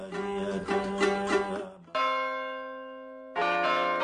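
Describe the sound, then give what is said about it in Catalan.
Church bells ring out clearly, a rapid cluster of overlapping strikes followed by a single long, resonant toll that slowly decays before another strike joins in. “Riferra Café, empresa dedicada a la foneria de campanes, la instal·lació de rellotges monumentals i la sonorització d'esglésies, col·legis, ajuntaments i institucions religioses.”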